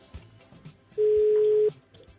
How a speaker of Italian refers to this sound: Intanto la nostra regia sta chiamando. Squilla. Squilla, squilla, squilla.